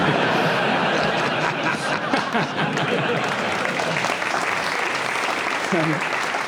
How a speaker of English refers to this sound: Can I just say, what a hurtful round of applause.